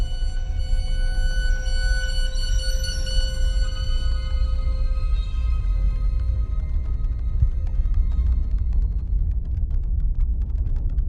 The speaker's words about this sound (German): Plötzlich das Dröhnen von schweren Motoren.